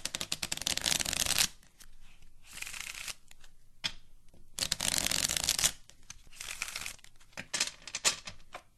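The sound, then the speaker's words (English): Playing cards are riffle-shuffled in four crisp, hissing bursts separated by short pauses, with soft flicks and taps as a card is drawn from the deck. No one speaks. “Pick a card, any card.”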